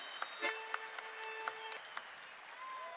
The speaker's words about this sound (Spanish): Y con este aplauso le decimos hasta prontito